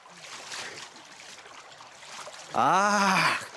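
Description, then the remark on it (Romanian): River water splashes and trickles steadily for a few seconds as someone drinks from the river, then a loud, drawn-out voiced exclamation cuts in over the end. “Dar Gedeon ne spune să coborâm toți 10.000 la malul acestui râulat. Să beau acum.”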